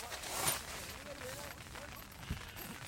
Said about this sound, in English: I've got our five-man tent up. Oh, hang on. Let's shut the door. I'm getting rained on. That familiar sound of the tent zip.